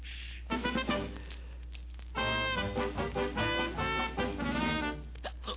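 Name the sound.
glasses clinking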